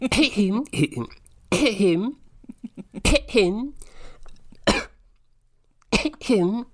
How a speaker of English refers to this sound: I'll just clear my throat for this poem.